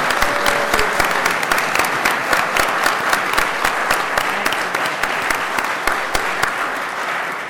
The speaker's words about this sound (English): And I think you'll agree with me, your applause tells me you agree that it was a most deserved honor.